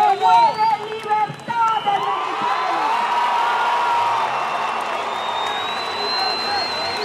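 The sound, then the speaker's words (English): A large crowd of Venezuelan opposition supporters roars and cheers continuously, with overlapping shouts and whoops in a dense, sustained wash of noise, while opposition figure Maria Corina Machado, speaking from atop a truck through a sound system, carries faintly above the din. “Supporters roar as Maria Corina Machado, the opposition's most popular figure, who was barred from running, speaks from atop a truck, the sound system barely reaching the large crowd.”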